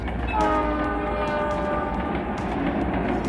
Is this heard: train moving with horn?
yes